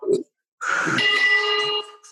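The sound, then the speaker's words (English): A bell in a company building, rung when a new customer order comes in, rings with a bright, sustained metallic tone that hangs for about a second before fading, behind some faint background noise. “By the way, what's that bell behind you?”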